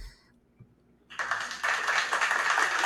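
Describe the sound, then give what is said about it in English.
After a second of near silence, dense clapping bursts in and swells louder, a steady wash of many hands applauding that carries on to the end without any voices; a clapping sound effect played in tribute to basketball player John Wall's career. “So, throw in the clap, my friend.”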